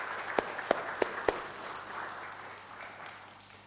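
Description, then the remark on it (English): An audience applauds as a posy of flowers is presented to a child's mum and dad: four sharp, evenly spaced claps stand out at first, then blend into a softer, steady wash of clapping that gradually fades. No one speaks. “There we are. Round of applause.”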